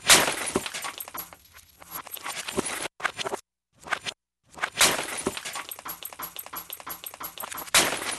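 A sound art piece of glass breaking and shattering in a dense run of crashes and tinkling shards, loud, broken by two brief silent pauses before the clattering resumes.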